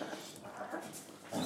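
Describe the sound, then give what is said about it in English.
A dog whimpers and whines in short, high-pitched bursts, ending in a slightly louder whine. “The dog's like, I have no idea what to do with that.”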